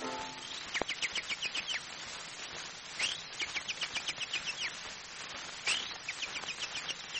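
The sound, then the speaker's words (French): An imitation of a chaffinch's song: fast runs of bright, high chirps, each accelerating into a trill and ending in a flourish, repeated several times. It is clear, with no talking. “Le pinson chante ceci.”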